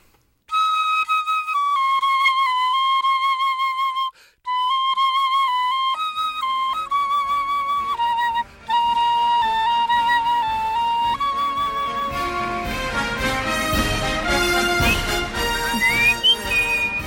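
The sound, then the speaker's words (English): A solo flute plays a short, lilting melody, clear sustained notes broken by a couple of brief pauses, growing busier and fuller toward the end. “Thank you so much for letting us celebrate the instrument, and maybe you can play us out with a little something?”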